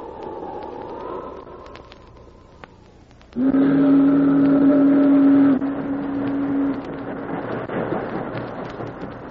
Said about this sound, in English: As the Bonanza Belle chugged up the Yukon River toward Dawson City, three men sat at a table in the cabin playing poker.